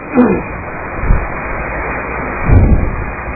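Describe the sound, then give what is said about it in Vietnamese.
Heavy rain pours down outside in a dense, unbroken hiss that fills the whole clip, louder than the speakers' voices, with a few dull low thumps rising out of the roar. No one speaks. “Tại ở bên ngoài mưa lớn quá.”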